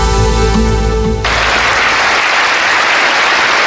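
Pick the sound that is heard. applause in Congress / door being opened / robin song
applause in Congress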